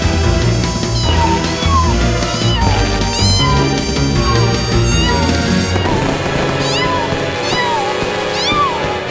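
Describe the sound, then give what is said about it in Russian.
A very small cat, frightened by New Year fireworks, meows repeatedly in short, high, rising-and-falling cries spaced every second or two, heard over a dense, steady rumbling background noise. “Выходит, ты очень маленький кот.”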